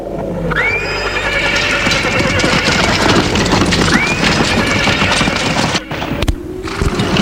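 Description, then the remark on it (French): A horse pulling a cart trots steadily and calmly with a continuous clip-clop of hooves over the rumble of the cart, and two short rising calls cut through the rhythm. “Et le cheval trottine tranquillement.”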